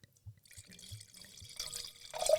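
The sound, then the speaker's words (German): Wine glugs out of a bottle into a glass, a few soft gulps giving way to a steady splashing stream that grows louder, with a faint ringing tone rising as the glass fills. No talking. “Jetzt mal einen halben Liter im Glas.”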